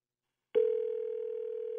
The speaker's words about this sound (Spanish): Ya está sonando el teléfono.